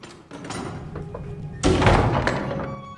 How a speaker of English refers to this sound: The cell door swings open and smiling blonde-haired Caroline comes in.